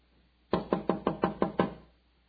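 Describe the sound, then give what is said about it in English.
Seven quick, evenly spaced, loud knocks on a door, rapping in a steady rhythm with a hollow woody thud, then stopping into quiet. “Oh, somebody's at the door.”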